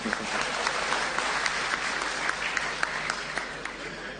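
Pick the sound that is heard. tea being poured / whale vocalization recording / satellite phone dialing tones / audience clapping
audience clapping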